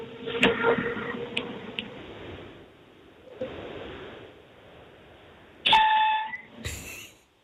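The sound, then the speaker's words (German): An S-Bahn commuter train pulling away: a steady low rumble with faint tonal electric whining, a few sharp clicks and knocks, and a louder burst of tones and hiss near the end. No one speaks. “Und wir hören uns noch eine Sekunde dein S-Bahn-Geräusch an.”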